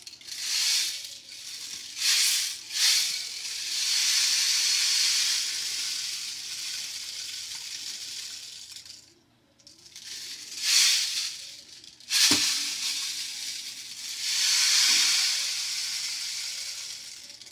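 A rain stick pours out a steady, hissing cascade of tiny beads, swelling and fading in long rushes with a brief pause near the middle, then another flowing run. No one speaks.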